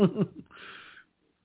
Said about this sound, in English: oh shit, now I'm going to start yawning. This is getting ridiculous.